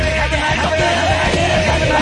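Several men shout and yell together loudly and continuously, their rough overlapping voices forming a dense wall of noise for about two seconds.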